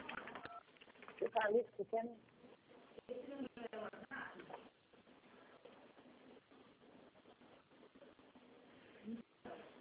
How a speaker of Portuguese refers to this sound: Onde que a senhora está digitando alguma tecla? Acho que a senhora está digitando alguma tecla. Não estou te entendendo. É que acho que a senhora está com o telefone no ouvido e está digitando algum botão, está dando um barulho.